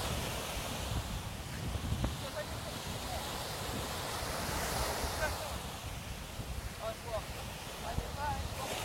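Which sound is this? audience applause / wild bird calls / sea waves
sea waves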